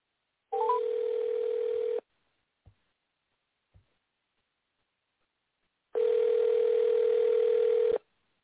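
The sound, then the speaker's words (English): An outgoing phone call's ringback tone: two steady, mid-pitched electronic rings about two seconds long, split by a four-second pause with a couple of faint clicks. No one speaks. “Two more rings. I'm hanging up.”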